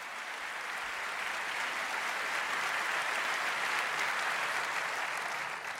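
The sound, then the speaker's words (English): Sustained applause from a sizable crowd welcoming a presenting duo at a talk, a dense, steady wash of clapping that holds at a constant level for several seconds with no voices standing out. “So give them a large round of applause, please.”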